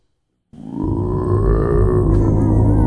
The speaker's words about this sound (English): Oh, sorry. That was just a burp. That was pretty good.